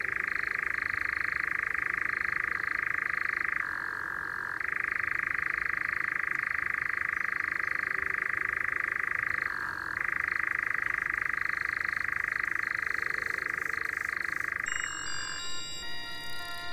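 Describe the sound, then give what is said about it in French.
A nightjar churrs in one long, steady mechanical trill that dips in pitch twice, then breaks off into a few short, scattered notes near the end. No one speaks. “Ici, il y a aussi des engoulevents. Ça a un cri particulier.”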